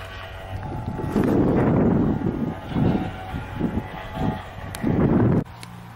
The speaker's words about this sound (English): Bloody cold tonight. It's windy and cold.